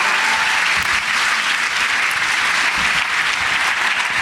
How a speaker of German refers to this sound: Ein Applaus. Für Stefan.